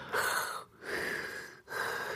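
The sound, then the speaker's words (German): A person imitates heavy, raspy breathing like his wife's when she sleeps, not snoring: three long, airy breaths in a steady rhythm with short pauses between, fairly loud, with no talking. “Ja, nicht so ein Schnarchen, so ein, ja, die Atemgeräusche, ne? Sie sind dann so.”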